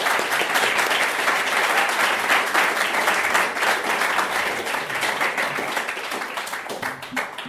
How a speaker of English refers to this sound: So you give them a hand, round of applause.